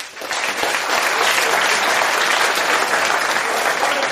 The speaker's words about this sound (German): Vielleicht machen wir es einmal kurz per Applaus. Ich würde gerne wissen, wo muss ich euch abholen? Wer würde von sich selbst sagen, dass er sich sehr gut entscheiden kann? Bitte jetzt einmal kurz applaudieren.